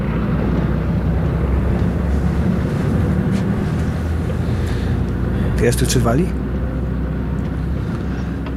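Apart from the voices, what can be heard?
moving bus interior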